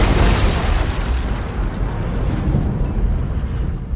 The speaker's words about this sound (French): Les gens se sont demandé ce qui se passait et quand certains se sont approchés pour mieux voir, c'est là qu'il y a eu la deuxième explosion et puis 20 secondes plus tard, encore une troisième.